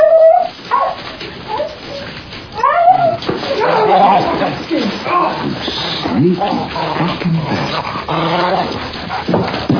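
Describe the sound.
A dog squeaks and whimpers in high, wavering cries that come in repeated bursts, fairly loud, with people talking over and between the sounds.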